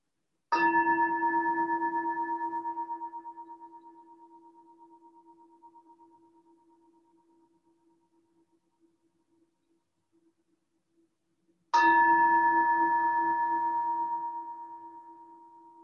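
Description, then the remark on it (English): A bell is struck twice, about eleven seconds apart, each ring a clear, steady tone with bright overtones that hum on and slowly fade into silence. No voices are heard. “Bells are always a nice way to enter, so I'll give us more bells.”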